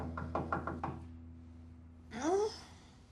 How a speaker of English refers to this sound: Is that someone knocking? It's just my head pounding.